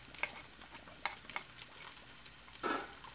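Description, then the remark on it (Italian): Garlic and chili, cut into small pieces, frying in hot oil in a pan as the sauce for spaghetti: a steady hissing sizzle with scattered sharp pops and crackles, swelling into a louder burst of spitting near the end. No one speaks. “Metto l'olio in una padella e quando è caldo metto anche l'aglio e il peperoncino.”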